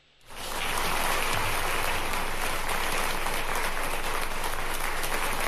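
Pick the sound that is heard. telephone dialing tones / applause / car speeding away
applause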